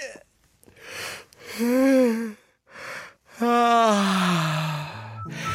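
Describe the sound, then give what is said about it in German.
A voice imitates snoring: a few drawn-out, throaty inhale-and-exhale snores with wavering pitch, separated by short pauses, fairly loud and without other talk. “Das ist so ein Schnarchen, ne?”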